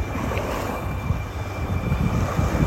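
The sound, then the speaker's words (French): Wind and waves on a Baltic Sea beach at Lübeck, in the far north of Germany, recorded as a voice note: a steady, low, rumbling roar with gently swelling and easing surges, continuous throughout and with no voices. “Dans cette note vocale, elle a enregistré les vagues et le vent.”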